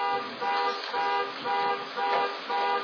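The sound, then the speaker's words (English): A car alarm blares in a steady cycle of loud, buzzy horn tones, repeating about every half second with brief dips between blasts, and no voices. “Did I set off an alarm up here?”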